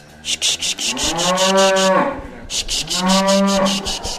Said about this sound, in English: This is Granny's favourite cow going up on the scales, if we can get her on. Good girl Pilgrim, go on. She's walking like she's twice the size she is.